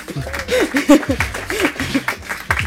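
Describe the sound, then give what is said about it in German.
An audience applauds the webmaster of an author's website, who is present at the evening event; scattered claps mix with laughter and a few whooping voices, fairly loud and steady for a couple of seconds. “Applaus für den Webmaster, bitte.”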